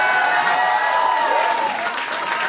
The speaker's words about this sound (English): and then the crowd erupted in some sort of applause.